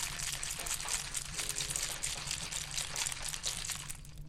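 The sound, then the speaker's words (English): A cocktail shaker holding whiskey, ginger and schnapps is shaken hard and fast, its contents sloshing and rattling in a steady, rapid rhythm of bright, noisy bursts for about four seconds, with no one talking. “So I have poured some whiskey and ginger and schnapps into this shaker, and now I'm shaking it.”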